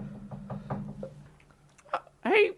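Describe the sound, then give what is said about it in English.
A quick series of about five evenly spaced knocks on a door, moderately loud, followed by a short pause and then a brief burst of voice at the end. “I think someone's knocking at the door.”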